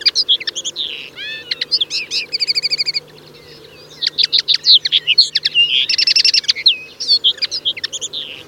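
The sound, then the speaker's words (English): A linnet twitters in a lively, continuous stream of quick chirps, buzzy trills and rapid repeated notes, clear, with a brief pause midway and a low steady hum underneath. “The answer in a linnet.”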